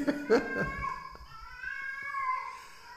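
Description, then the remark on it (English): A female cat in heat caterwauls from somewhere outside, a long, wavering, moaning yowl that rises and bends in pitch, with faint background noise. “There's one horny cat out there.”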